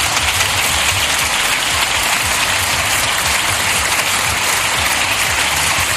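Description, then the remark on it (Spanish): Sustained, loud, effusive applause from left-wing deputies in Spain's Congreso de los Diputados fills the whole six seconds, a dense steady wash of many hands clapping with no pauses and no voices standing out. “y se olvidaba de esas acusaciones a nuestro país que han provocado el rechazo de los diputados de derechas y el aplauso efusivo del arco parlamentario de la izquierda.”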